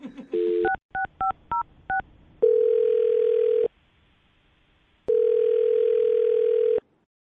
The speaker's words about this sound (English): I'm dialing her phone number right now